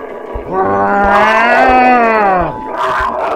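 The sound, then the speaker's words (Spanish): A puma prowling around a village lets out one loud, drawn-out growl lasting about two seconds, rich and throaty with a steady low pitch that sags at the end, followed by a softer rasping breath. “Flor prestó atención y efectivamente oyó un terrible gruñido.”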